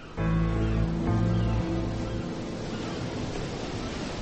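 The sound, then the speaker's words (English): Ocean waves roll in a steady, broad wash of surf, briefly joined at the start by sustained low musical tones that fade out, leaving only the continuous rushing water. “The waves rolled by, as they had always done.”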